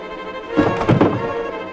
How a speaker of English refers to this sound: As the two oddbods break the next room's door down, Sydney and Albert fall backwards through a panel and down a slide.